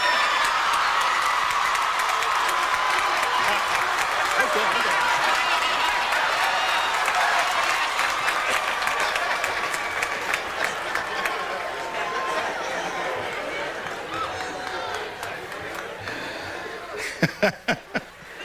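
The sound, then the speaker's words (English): A large commencement audience applauds loudly, a dense roar of clapping mixed with cheers and crowd noise that slowly tapers off, leaving a few scattered claps at the end. “If you are appreciative and applaud loudly very early on, you get a nice short speech.”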